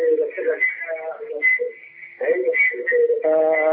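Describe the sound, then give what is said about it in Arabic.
Thin, tinny sound from a caller's television echoes back over a phone line, with voices heard through the narrow telephone band, running fairly loud and almost continuously for a few seconds. “طب اغلق تلفزيونك او وطي صوته عشان عامل عندنا صدى صوت كده.”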